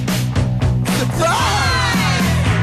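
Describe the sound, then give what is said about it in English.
A group of people at a surprise party shouts and whoops together loudly in surprise as someone comes through the door, overlapping voices rising into excited yells over a steady low rhythmic background. “Get ready to yell.”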